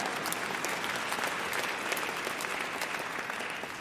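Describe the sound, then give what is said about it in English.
An audience claps steadily throughout, a dense, even wash of many hands applauding at a moderate level with no pauses and no voices standing out. “God, yeah, you can even clap if you want here.”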